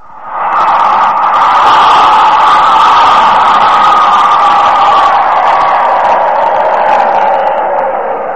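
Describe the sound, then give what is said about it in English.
A recorded crowd sound effect, played as it was recorded: a dense crowd roars steadily for about eight seconds, a loud wash of many overlapping voices with no single speaker standing out, fading in at the start and holding level throughout. “Here is a sound effect of a crowd.”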